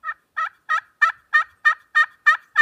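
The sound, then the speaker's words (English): A series of eight evenly spaced, raspy yelps from a slate turkey call worked with a striker, each short note steady, imitating an old hen turkey's yelp with no talking over it. “That's an old turkey hen yelp.”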